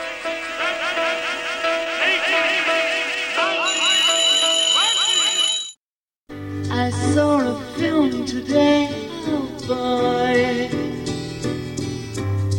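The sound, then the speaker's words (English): A loud alarm clock rings amid dense music, set off at the end of a 24-bar passage to bring the musicians back in; its bright metallic jangling lasts a couple of seconds before a brief silence and a return to full music. “And just to add further weight to it, he set off an alarm clock at the end of it to trick everybody back into it again.”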